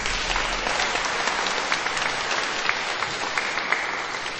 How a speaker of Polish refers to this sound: I jest już z nami wielki przyjaciel dzieci, ksiądz biskup Antoni Długosz z Częstochowy, który także już dotarł do miejsca piastowego. Także dla księdza biskupa gorące brawa.